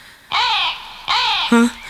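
A bird calls twice with loud, harsh, raspy caws like a crow, each lasting under half a second, followed by a brief lower droning note.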